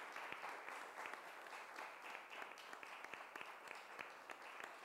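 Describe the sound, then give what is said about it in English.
Sustained applause from a crowd for a group of men and women, a dense steady wash of many hands clapping with sharp individual claps standing out throughout, holding at an even loudness for the whole stretch. “And I'd love us to just applaud this group of men and women.”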